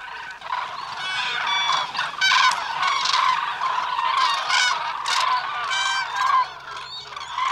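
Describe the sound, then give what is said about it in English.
A dense chorus of loud crane calls from a large flock of cranes gathered in a wetland, overlapping honks and bugling cries blending into a continuous, noisy din with no voices. “The din of honking from a large flock of cranes can be heard from miles away.”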